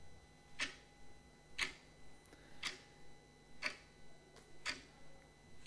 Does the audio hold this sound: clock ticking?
yes